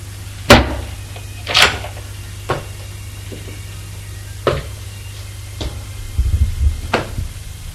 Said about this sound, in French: Arrive en haut. Mange un couloir. Ouvre la porte de sa chambre.